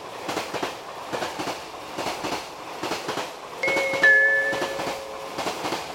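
A down train rolls into platform 3 of a station, its wheels clacking over rail joints in a steady rhythm before shrill, sustained brake squeals rise as it slows. No one speaks.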